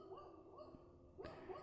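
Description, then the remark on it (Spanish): A dog whimpers in a series of thin, wavering whines, rising and falling in pitch about four times, with a short scuffling noise partway through and no talking. “Hola, perrito.”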